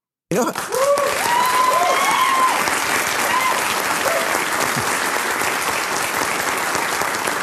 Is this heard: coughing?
no